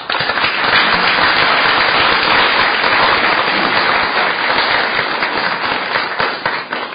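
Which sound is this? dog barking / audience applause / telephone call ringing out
audience applause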